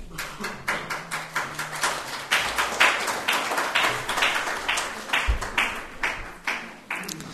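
An audience applauds together, a dense, steady patter of many hands clapping that holds for several seconds at moderate loudness, with no voices heard over it.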